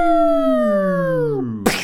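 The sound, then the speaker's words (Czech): A single voice sings one long, steady downward pitch glide imitating a falling UFO, without vibrato, fairly loud, then breaks off into a short breathy burst. “Skvělý. A dolů.”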